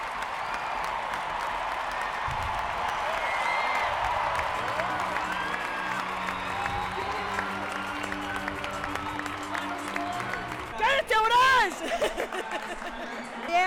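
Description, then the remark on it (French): A crowd of more than 50,000 at Marvel Stadium cheers the Matildas' women's football win over France before the Women's World Cup: a steady loud wash of voices and applause, with sustained chant-like tones in the middle and shrill whistles and whoops bursting out near the end. “De quoi ravir la foule locale.”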